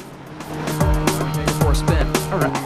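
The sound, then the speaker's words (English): A sedan's engine revs and drops in pitch several times in quick succession, fairly loud, over a steady humming background, as it drives past a rising barrier on a car sales forecourt. “The barrier rises for the sedan.”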